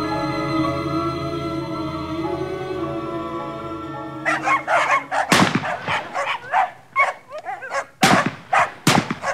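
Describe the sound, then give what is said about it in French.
After a few seconds of steady droning tone, several dogs break into loud barking, with rapid, irregular, overlapping barks continuing to the end. “rentrez avec les chiens et les armes.”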